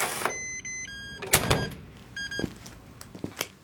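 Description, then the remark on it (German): An electronic door lock whirs with high, buzzy tones, then snaps open in a few sharp mechanical clicks, followed by softer scattered clacks; no one speaks. “In diesem Moment klickte das Türschloss und 2 Männer in teuren Maßanzügen betraten den Raum.”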